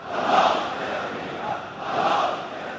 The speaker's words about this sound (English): He tells a mass rally that, quote, American aggression will have very grave consequences. The crowd responds with chants of death to America.